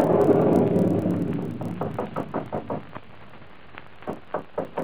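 A muffled rumble fades out, then a series of sharp knocks on a door follows in quick bursts, moderately loud, with no one talking.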